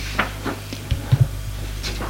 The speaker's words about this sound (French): Frappe à la porte.